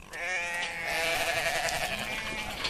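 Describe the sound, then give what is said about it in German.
Several sheep on a farm in Wales bleat loudly and continuously at feeding time as the farmer brings two heavy buckets of feed, their wavering calls overlapping for a few seconds with no talking. “Die Tiere blöken, denn es ist Fütterungszeit.”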